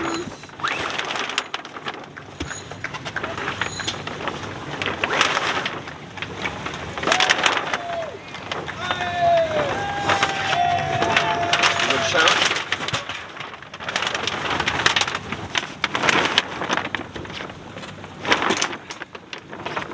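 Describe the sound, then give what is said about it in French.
A racing boat picks up speed leaving the port at Santa Cruz, with steady rushing water and wind noise, broken by clattering knocks and splashes. A few gull-like cries sound faintly in the middle, and muffled voices come and go. “Le bateau prend de la vitesse tandis que nous sortons du port.”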